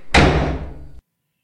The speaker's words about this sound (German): Kurz bevor ich die schwere Tür ins Schloss fallen lasse, betätige ich den Lichtschalter vor der Tür und begebe mich wieder in die allumfassende, gütige Dunkelheit.